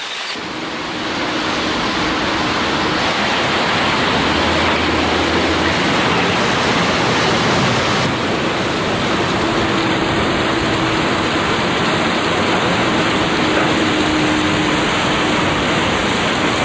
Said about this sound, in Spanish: La zona norte de la isla es la que recoge más lluvia, por lo que tiene gran cantidad de quebradas y torrenteras, que terminan en unos impresionantes saltos como el así bautizado Velo de Novia, por su forma característica.